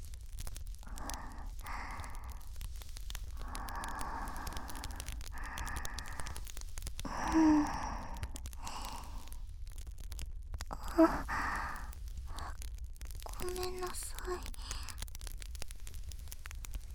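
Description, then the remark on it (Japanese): Heavy breathing right at the listener's ear, a series of slow breathy exhales and sighs repeating unevenly over a quiet hiss, with a couple of soft clicks in between. “私の気持ち悪い息遣い、お兄さんの耳にかかっていると思いますが、不快ではないですか？”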